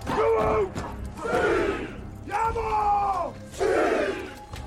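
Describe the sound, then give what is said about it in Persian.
A man, the character Baba Bos, bellows a fierce battle cry in four loud, drawn-out shouts with brief pauses between them, as warriors strike long poles on the ground, backed by a roaring crowd that seems to join each call. “بابا باس فریاد میزنه.”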